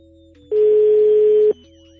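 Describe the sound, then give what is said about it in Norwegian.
A single steady telephone ringing tone sounds for about a second, loud with a slightly noisy, line-like quality, then cuts off, leaving a faint hum. “Nå ringer den.”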